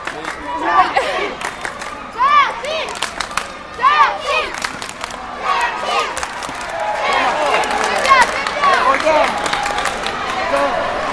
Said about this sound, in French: On entend des supporters crier, on va se diriger vers eux, les enfants.